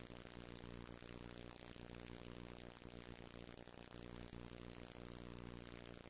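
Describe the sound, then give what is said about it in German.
The small petrol engine of a modern model airplane runs steadily at high revs, a loud, buzzing drone with a constant pitch that lasts the whole time. “Ich habe hier ein ganz modernes Flugzeug mit Benzinmotor.”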